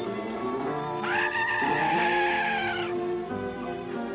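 A goat on a stage bleats loudly, one long wavering cry lasting a couple of seconds, set against a busy background hum with no talking.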